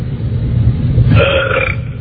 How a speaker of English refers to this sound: Now, wait a minute. No, I want to find the pig. I want to find the pig that's burping.